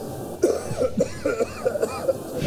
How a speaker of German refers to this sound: So, ich mach mal hier gerade nochmal Räusper-Taste, Achtung.